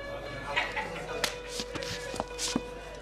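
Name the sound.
slap across the face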